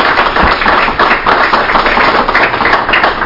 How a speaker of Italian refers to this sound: Io posso solo chiedervi di unirvi a un applauso e un ringraziamento a tutti gli speaker questa sera.